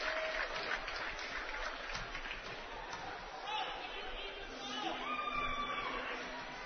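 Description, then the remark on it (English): A steady round of applause from Bearcat basketball fans for a 6'8 sophomore player going to the sideline with 17 points, dense clapping mixed with crowd chatter and a few raised voices, holding at a fairly even level throughout. “Kozad getting a good round of applause from the Bearcat fans, the 6'8 sophomore out of Kearney, Missouri.”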